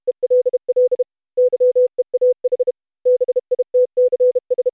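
morse code telegraph beeps

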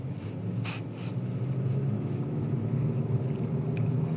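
road traffic

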